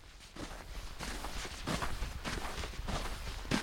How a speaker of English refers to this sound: Inside the Ice Hotel, all sound dies in the 3 feet thick snow and ice walls. The only sound is my own footsteps.